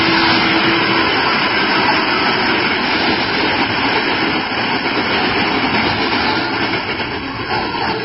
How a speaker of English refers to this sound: The Lone Ranger picked his friend up bodily and took three quick steps to safety, scant yards before the rushing train went past.